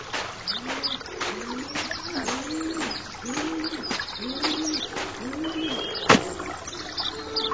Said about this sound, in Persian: نوای چند پرنده که گویی برای آسودن نیمروزی به نخلستان پناه آورده بودند چونان لالایی محزون چشمان خسته آمنه را به خواب می‌برد.